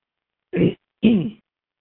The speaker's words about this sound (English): You have to forgive me for the coughing. I swallowed the wrong way.